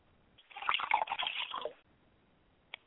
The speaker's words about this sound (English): I like to pour libation to my mother spirit, Yamanja, and I say Ashe, Ashe.